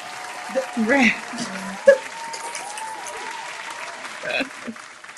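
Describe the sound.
A hand-clapping sound effect: a steady, dense burst of applause lasting several seconds, with voices and cheering mixed in, and a few sharper peaks rising above the wash of claps.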